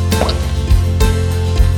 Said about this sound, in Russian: Знаешь, с каким звуком лопнет желчный пузырь? Вот с таким.